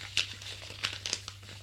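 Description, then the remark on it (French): A man quickly folds a sheet of paper, crinkling and rustling in a few sharp crisp bursts over a faint steady hum, with no voices. “Vite, il plie la feuille.”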